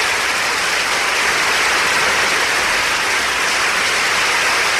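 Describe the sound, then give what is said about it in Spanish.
Loud, sustained audience applause, a dense wash of many hands clapping at once that stays steady for about five seconds, with no voices over it. “Bueno, ese aplauso que se supone es que porque...”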